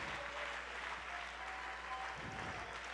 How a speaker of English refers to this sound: Somebody give Him a hand clap of praise this morning. Oh, praise the Lord.